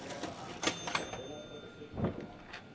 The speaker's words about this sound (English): They even got an old cash register for the counter.